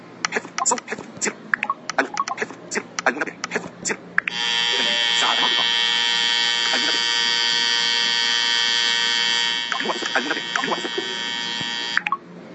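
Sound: alarm clock buzzing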